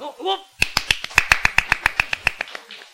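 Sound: hand clapping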